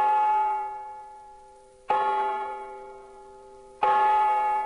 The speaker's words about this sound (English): I waited on the bridge in the dark. I was very apprehensive. What was going to happen? Then the clock struck midnight.